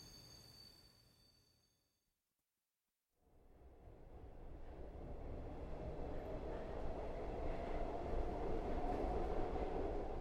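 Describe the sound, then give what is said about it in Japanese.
A train rumbles in after a brief silence, its low, steady roar swelling louder until it fills the space. No voices are heard. “ほら、電車が来たわね。”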